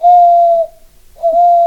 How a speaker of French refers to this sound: Il y avait des hiboux.